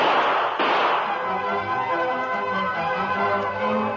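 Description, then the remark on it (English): Sharp, booming gunshots fired during a holdup, heard outside across the street, crack out at the start, followed by a ringing, reverberant decay as low tones linger afterward. No one speaks. “Across the street, Sheriff Fraser and Tonto entered the office from the cell room as the sound of gunfire was heard outside.”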